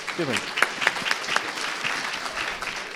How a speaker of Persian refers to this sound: تشویق نکنیم.